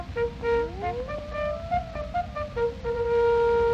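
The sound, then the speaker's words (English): A bugle sounds a call, brassy sustained notes with a rising, sliding pitch that settle into a long held tone, played over a steady noisy hiss and low rumble. “Bugler, sound the fall in!”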